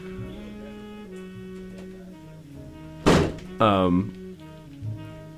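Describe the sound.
A door shuts with one loud, solid thunk, followed by a brief tonal squeak, while people talk quietly in the background.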